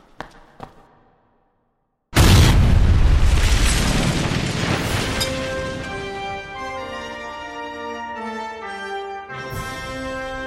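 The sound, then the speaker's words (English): After a few faint clicks and a brief silence, a sudden loud pyrotechnic gas explosion of a Death Star model, blown with a special Titan blend, bursts out with a roaring, crackling blast that slowly fades as sustained musical tones swell beneath it. “And when it's all done, we'll have a very convincing gas explosion.”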